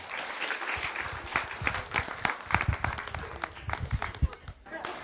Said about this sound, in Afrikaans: Julle kan maar gaan sê dankie. Kom ons gee vir hulle aan en klap.